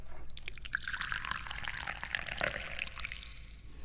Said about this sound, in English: Well, I'm pouring the tea because I'm thirsty.